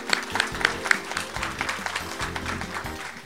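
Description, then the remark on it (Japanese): An audience at an investor relations event in Tokyo claps steadily and warmly to welcome the president of Tenox Corporation as speaker, a dense wash of many hands that holds at an even level throughout, with no voices heard over it. “皆様大きな拍手でお迎えください。”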